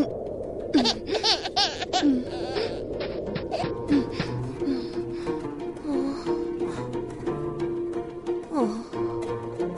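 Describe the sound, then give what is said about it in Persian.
A thirsty baby cries in a steady run of rising and falling wails and whimpers, with short breaths between them, lasting the whole stretch with no talking. “جانم فرزندم، جانم تشنه‌ای، گریه نکن، هم اکنون میروم برایت آب میآورم.”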